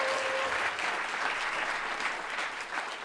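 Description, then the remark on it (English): A studio audience at a show in Madison, Wisconsin applauds steadily, cued by an applause sign, a dense wash of clapping hands that holds at an even, fairly loud level throughout with no voices on top. “She wasn't manning the applause sign, so she didn't get it very good.”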